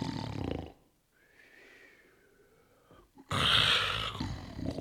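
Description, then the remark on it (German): Loud, rasping snores: a harsh snort, then a quiet whistling exhale, then another heavy, drawn-out snore from a man napping during his midday lunch break. No one speaks. “Er schnarcht, sägt wie ein Holzfäller, nutzt die Mittagspause zu einem Nickerchen.”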